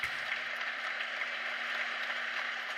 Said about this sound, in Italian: Qui faccio ascoltare gli applausi.